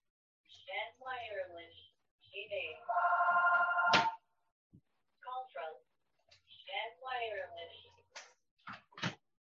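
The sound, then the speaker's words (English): A telephone rings once in a loud, steady electronic burst lasting about a second, between stretches of a man talking; a couple of sharp clicks follow. “Excuse me, I forgot to unplug the phone.”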